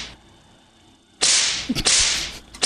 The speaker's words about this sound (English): I like that whip sound.